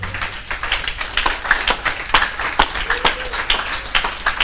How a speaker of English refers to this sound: Can you clap?